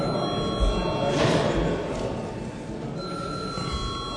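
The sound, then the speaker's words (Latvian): A parliament chamber bell, called for by the chair before a first-reading vote on a bill, rings in a steady, continuous electric tone for several seconds, with a low murmur of voices and a few soft thumps underneath. “Lūdzu zvanu.”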